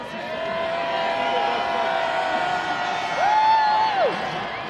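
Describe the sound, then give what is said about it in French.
A large, enthusiastic crowd cheers and shouts steadily as Pope Benedict XVI circles the square in the popemobile, a dense wash of many voices, with a shrill whistle-like tone rising out of the noise near the end. “Benoît XVI arrive sur les coups de 10h30, souriant, effectuant en papa mobile le tour de la place sous les vivats d'une foule enthousiaste.”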